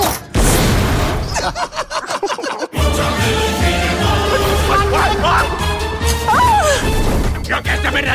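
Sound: fireworks exploding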